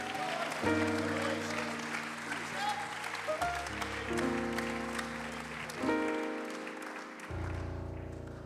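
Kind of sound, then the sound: crowd, audience hand clap applause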